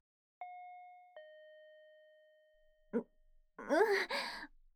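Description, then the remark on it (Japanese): A two-tone intercom doorbell chime rings out clearly, each note sustaining and slowly fading, followed by a brief rustle and a breathy, sigh-like vocal sound. “インターホン鳴らして、出てきてくれるかな。”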